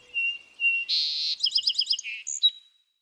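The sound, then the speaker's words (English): A songbird sings a short, varied phrase: thin whistled notes, a buzzy burst, then a quick run of rhythmic trilled chirps ending in a high whistle. Clear, with no other sounds. “Then it starts putting the elements together, and eventually it's doing a song very much like what it had heard the previous summer.”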